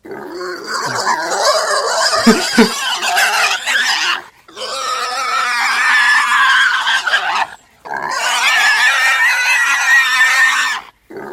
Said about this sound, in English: That was a boar?